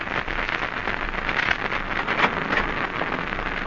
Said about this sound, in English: 10 minutes later, you arrive at the Surfside Motel. You're thankful for the roar of the nearby surf, as it will help cover the sound of gunshots.